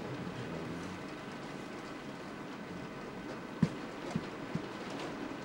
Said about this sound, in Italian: Si sente la pioggia.